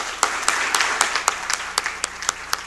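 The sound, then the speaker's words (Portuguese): A warm round of applause from a crowd for the people being honored, dense overlapping claps with a few sharper, louder ones standing out in a steady, sustained stretch, with no voices heard. “uma salva de palmas calorosa para todos vocês homenageados hoje.”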